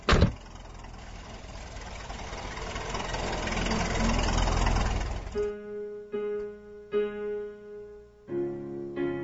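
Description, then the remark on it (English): A car engine idles with a steady, loud rumble for about five seconds, then cuts away as a soft, sustained musical passage takes over. “George, get in the car quick.”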